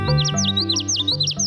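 A male common yellowthroat warbler, a yellow bird with a tiny black mask, sings a loud run of bright, swooping notes repeated in quick rhythmic phrases, with a steady low hum underneath.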